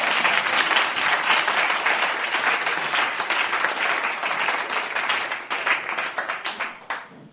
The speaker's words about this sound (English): And this morning we can say, we thank God and let's give him a round of applause.